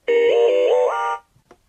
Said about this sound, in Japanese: 通知音4